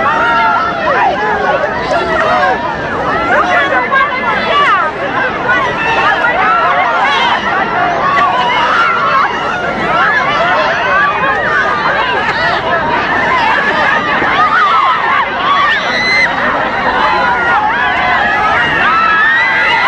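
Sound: crowd chatter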